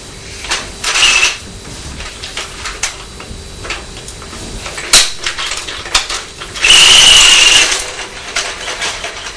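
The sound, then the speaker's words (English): A wind-up toy helicopter makes a clicky, ratcheting mechanical noise, broken by two louder whirring bursts with a thin high whine, the longer one near the end. No one speaks. “That makes quite a noise, doesn't it, when we wind the helicopter up?”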